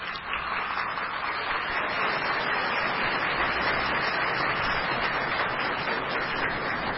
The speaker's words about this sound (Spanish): Hace un momento escuchamos al cuarteto de cuerdas de la Orquesta Filarmónica de la Secretaría de Marina, a quienes les agradecemos su presencia y su participación, y para quienes pido de nueva cuenta brindemos un fuerte aplauso.